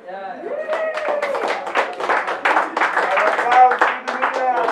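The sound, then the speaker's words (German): A crowd bursts into steady applause, dense overlapping claps lasting several seconds, with a voice calling out at the start and cheering mixed in. “Also erstmal müsst ihr hier einen Applaus.”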